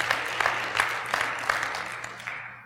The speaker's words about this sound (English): Yes, praise the Lord. These are guests clapping for you.